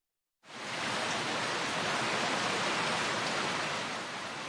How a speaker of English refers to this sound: Wow, I need an umbrella. It's raining. In Japanese, this is described as ザーザー. We say ザーザー when it's raining hard.